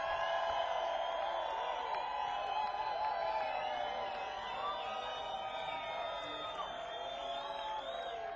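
A large crowd at a day of live music cheers and shouts steadily, with scattered whoops and yells rising over a dense, continuous roar that holds at a loud, even level throughout.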